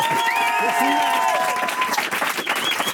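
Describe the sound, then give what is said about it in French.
A crowd applauds steadily, dense clapping filling the whole stretch, with tonal sounds like voices or whistles sliding over it in the first half. “On a envie de t'embrasser et de t'applaudir aussi aujourd'hui.”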